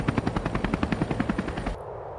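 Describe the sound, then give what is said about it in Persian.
A helicopter's rotor chops in a fast, steady thudding rhythm, loud, for under two seconds before cutting off abruptly, leaving only faint low rumble; a helicopter sound effect in a crash scene. “داریم سقوط می‌کنیم. نمی‌توانیم ببینیم. هیچ چیز مشخص نیست. هواپیماها، هلیکوپترها، همه چیز در هم می‌پیچد.”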